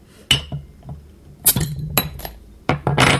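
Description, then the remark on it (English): A crown-capped, corkless bottle of Smoking Wood porter being opened amid several sharp glassy clinks and taps, spaced irregularly over a few seconds, with a brief bright snap partway through and no talking. “It comes in a standard crown. There's no cork as far as I can tell here.”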